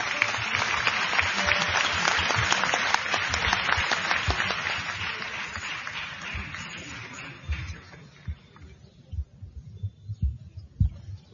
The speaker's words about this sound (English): Let us thus encourage them with a big round of applause.